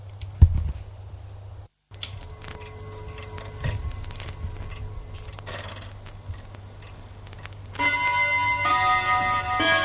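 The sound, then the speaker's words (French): A clock's mechanism whirs and clicks quietly, then near the end a loud, ringing chime starts striking eleven o'clock, its tones sustained. No one speaks. “L'horloge sonne 11 heures.”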